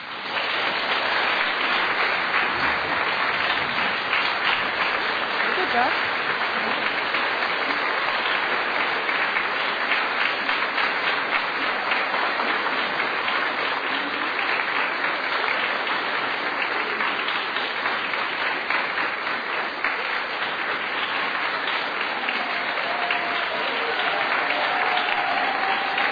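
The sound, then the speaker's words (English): An audience applauds a Certificate of Excellence award steadily for about twenty-six seconds, a dense, even wash of clapping that stays loud throughout, with one brief voice calling out partway through. “I hope that you will join me in applauding her efforts.”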